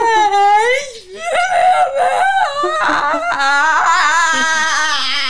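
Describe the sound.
An adult voice wails and sobs in exaggerated imitation of a child's crying tantrum, loud, with wavering, drawn-out howls that rise and fall for several seconds.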